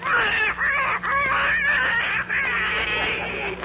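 A duck named Abigail squawks angrily, a loud, harsh run of rapid quacks and honks that barely pauses for a few seconds.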